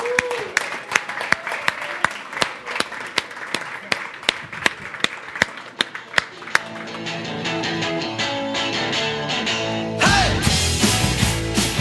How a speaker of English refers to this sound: And so we're going to ask them to head on up to Revolution Kids Church, and we'll cheer for them as they do.